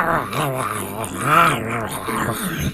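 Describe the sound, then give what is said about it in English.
A voice imitates a growling, snarling beast eating a takeout box, in one continuous burst of rough, wavering, guttural sounds, fairly loud, as if chomping and tearing into it. “Oh, they're eating the box.”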